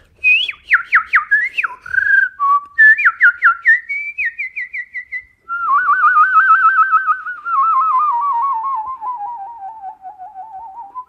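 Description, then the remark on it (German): A person whistles a lively tune, starting with quick, chirpy trilled notes, then shifting into a long, wavering warble that slowly glides downward. No talking. “Ich pfeife mal als Beispiel, dass du hörst, ob da irgendwie Luft, viel Luft dabei ist.”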